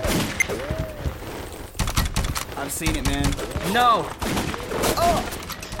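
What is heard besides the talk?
video game gunfire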